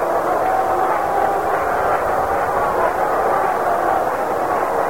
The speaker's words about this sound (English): It brings up Bobby Mercer. Listen to the crowd. Listen to it.